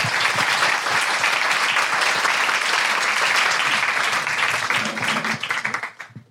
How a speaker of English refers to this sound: Well, thank you very much. Big round of applause. Thank you.